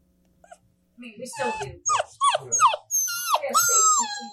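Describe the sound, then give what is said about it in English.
A litter of nine puppies at Juneau Animal Rescue whimper and yip, high-pitched overlapping cries and short barks coming in quick bursts after a brief quiet moment, growing busier and louder toward the end. “A litter of 9 puppies at Juneau Animal Rescue, all named after different Paw Patrol characters, were waiting for their forever homes last week.”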